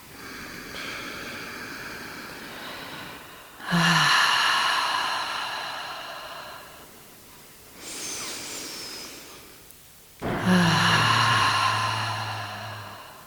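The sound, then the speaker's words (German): Deep, slow breaths drawn in through the nose and released through the mouth during a guided breathing exercise, alternating in long airy swells that rise and fade, fairly loud, with no talking. “Gut, bevor es losgeht, einmal tief in deine Fußsohlen einatmen durch die Nase. Und durch den Mund über einen aus den Fußsohlen Wurzeln in die Erde atmen.”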